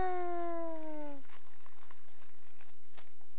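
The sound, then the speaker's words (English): A short falling vocal tone opens, then paper crinkles in scattered, crackly bursts as a package is pushed down and opened, fairly quiet, with a faint steady hum underneath. “You push this down. There's the paper. Open.”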